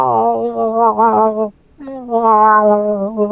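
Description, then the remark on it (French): A human voice very softly imitates a female's mewing call twice: two drawn-out, wavering tones with a gentle tremolo, not too choppy, and a brief pause between them, otherwise quiet. “On peut commencer à caler la femelle, il n'y a aucun problème, call de contact de boc, mais la femelle, on va vraiment la miauler tout doucement, vraiment.”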